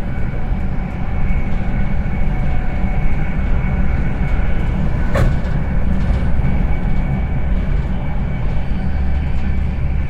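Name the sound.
passenger train running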